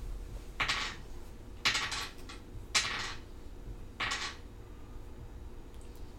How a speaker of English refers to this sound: Why are you rolling 7 dice? Because that's how much attack he has. 24 damage.